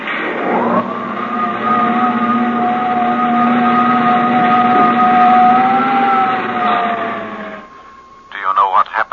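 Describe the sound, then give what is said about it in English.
Jet dynamos aboard Space Patrol Ship S2J3, driven by the harnessed power of 1,000 suns, hum in a loud, steady electronic drone with layered tones and a slightly wavering pitch for about seven seconds, then stop abruptly as a voice briefly begins. “Jet dynamos driven by the harnessed power of 1,000 suns. Listen, Earthman. Listen to them.”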